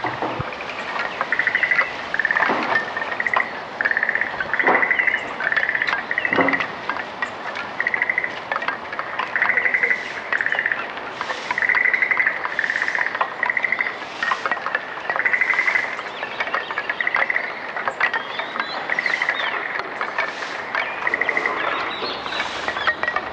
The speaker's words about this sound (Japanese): ほうきとカエルと風に吹かれる絵馬の類似したリズムはまるでサウンドアートのようにも聞こえました。